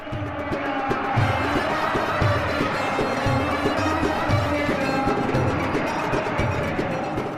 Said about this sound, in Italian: In mano non ha megafoni o striscioni, ma un microfono e un registratore portatile, con cui cattura i suoni della piazza, le canzoni, le grida, gli slogan.